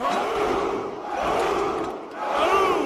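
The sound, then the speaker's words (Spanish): A crowd of Spartan warriors roars a battle cry in unison, loud massed male voices swelling in about three surging waves, with no other sound beneath. “No sé por qué gritaban.”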